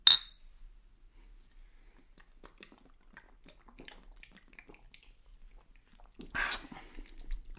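Someone drinks blonde beer from a large, heavy glass bottle: a bright clink of glass at the start, soft swallowing and small mouth sounds, then a louder sloshing burst near the end.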